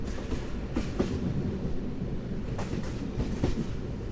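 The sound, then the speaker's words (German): A train, having just left Transylvania, rumbles steadily along the rails, its low continuous roar broken by irregular metallic clacks and brief bright clicks from the wheels passing over joints, with no talking. “Als ich 5 Stunden später aufwache, hat der Zug Transsilvanien bereits verlassen.”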